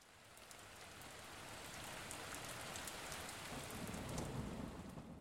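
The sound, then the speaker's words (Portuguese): Sudden rain at night pours down steadily, a dense wash of drops hitting a surface with scattered sharper patters on top, growing slightly heavier toward the end, with a low rumble beneath and no voices. “Numa certa noite, começou a chover de repente e o pequeno pescador de barba verde não conseguia adormecer por causa do barulho das gotas de chuva.”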